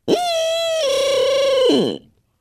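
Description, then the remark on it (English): A single short, loud blast on a handheld barred owl call, blown in the woods while still dark to try to make a turkey gobble: a reedy hoot that holds, steps down in pitch partway through, then slurs downward and cuts off. Alone, with no talking. “I might do a laugh of a barred owl, and I might do this.”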